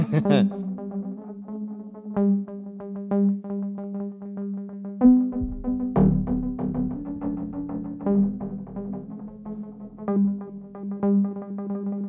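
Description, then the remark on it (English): A reverb swell effect from an audio plugin: a steady, humming low tone with a ringing overtone layer, repeated notes blooming and swelling into a washy reverb tail that lingers between hits; moderately loud, with no voices. “Reverb swell.”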